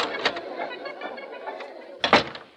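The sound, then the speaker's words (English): A backstage door at a performance venue opens with a sharp clunk and rattle of the latch near the end, fairly loud, over a steady background murmur. “I'll get in this door.”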